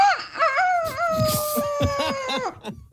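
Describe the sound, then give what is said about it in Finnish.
One long rooster crow, a sustained, wavering tone that holds steady before dropping off after about two and a half seconds. It is fairly loud, with a few low knocks underneath and no talking. “Tsekkosmainen kukko.”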